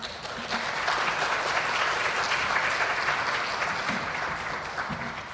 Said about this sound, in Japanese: 拍手を持って歓迎いたしましょう。